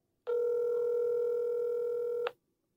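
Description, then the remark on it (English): A single steady electronic ringback tone from an outgoing phone call that goes unanswered sounds for about two seconds, even and unbroken, then cuts to silence. No voices. “What kind of work that you can't pick up your phone?”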